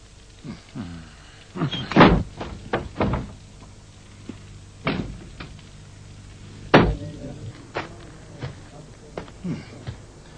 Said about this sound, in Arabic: إذا خرجتما لا تغلق الباب خلفكما بقوة، صوتها يؤذيني.